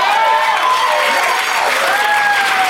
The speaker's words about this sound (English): I thought that should have gotten way more applause than it did.